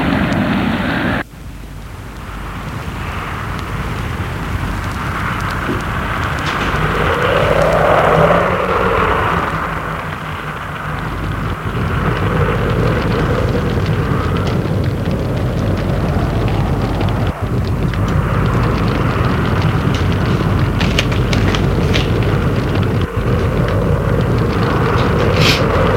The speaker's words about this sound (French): La chaleur de la pièce le calme. On entend moins le vent